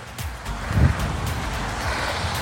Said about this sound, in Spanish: Tengo que apurarme porque vienen carros.